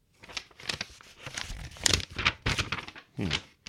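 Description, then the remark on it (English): Paper rustling and crinkling in a string of irregular crackly bursts with short pauses between, made as a sound effect of a letter being turned over, rustled and held out at arm's length. No voices. “I am making paper sound effects as if I'm turning over, rustling with, and holding out at arm's length to see if I'm missing something.”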